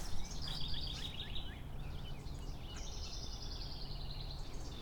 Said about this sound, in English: I can hear a lot of birds. They're all very happy. They're all very pleased to be out and about on this lovely Thursday.